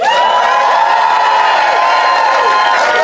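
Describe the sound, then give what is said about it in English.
The Phoenix audience, voting by applause, erupts in loud, sustained cheering and applause, a dense roar of clapping with voices whooping and shouting over it, steady and unbroken for the whole few seconds. “then applaud now”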